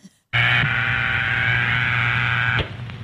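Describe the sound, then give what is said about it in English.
A loud, steady telephone dial tone starts abruptly, holds at an unchanging buzzy pitch for about two seconds, then cuts off, leaving faint background noise. “The dial tone is the equipment's way of telling you that it's ready to put through your call.”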